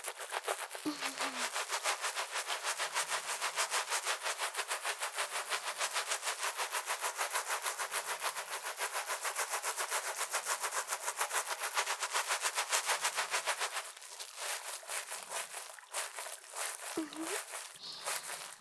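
Rapid, steady scratching and crackling of hair being lathered into a foam and washed, a dense bright rustle that continues without pause, easing slightly toward the end.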